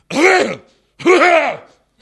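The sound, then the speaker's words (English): Two loud coughs in quick succession, each a short throaty burst with a strongly voiced, almost spoken quality, like someone deliberately imitating a cough. “So instead, cough loudly 3 times.”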